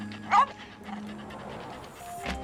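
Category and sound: animal, dog panting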